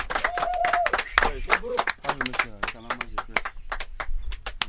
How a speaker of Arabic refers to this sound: في البداية أنا عايز أقدم شكر كبير لأي زول جاء عشان يحضر الاجتماع ده، وبطلب منكم لو سمحتوا ها انتوا صفقوا لنفسكم.